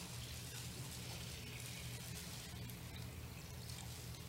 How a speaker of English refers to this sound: Everybody saw that. He took the water that was in here and he poured it in here. Same water, right? This is not a different water. It's just a different container.